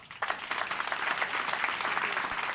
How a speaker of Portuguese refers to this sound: Un longo aplauso pechaba esa intervención na que se pedía xustiza tamén para Samuel, na que se tamén brindaba apoio e solidariedade á familia e amigos do mozo coruñés que foi asasinado dunha manlleira esta pasada fin de semana.